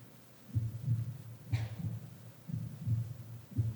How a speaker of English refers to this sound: Every single one of them has this heart beating. It's more than just pumping blood and nutriments. It's the sign of life.